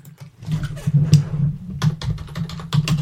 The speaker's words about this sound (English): Uh-oh. Leonard's typing.